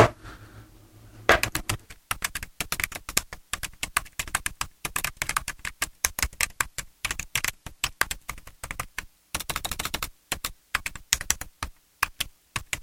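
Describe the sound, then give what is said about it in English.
After a moment of quiet, someone types rapidly on a computer keyboard, a steady clatter of crisp keystrokes with brief pauses and no voices. “It is typing, by the way, isn't it? Yes, it is.”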